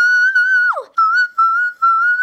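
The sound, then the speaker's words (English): A singer imitates a dolphin with a thin, piercing whistle note, held steady, dropping in one quick downward swoop and breaking off briefly a few times. It is loud, with no talking. “Not unless you're trying to do whistle notes like a dolphin, like.”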